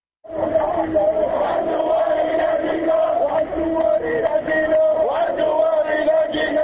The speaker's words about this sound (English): Thousands of Jordanians marched through the streets of the capital on Thursday, shouting defiance and anger at the attacks that struck at the heart of the capital on Wednesday.